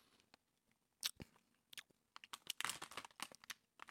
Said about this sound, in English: Oh, it's soft. I did not expect that. Hold on. I noticed. Sorry, people don't really like people chewing down a microphone, dude.